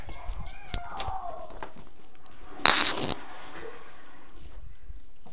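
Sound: cat yowling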